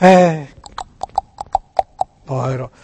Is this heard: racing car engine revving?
no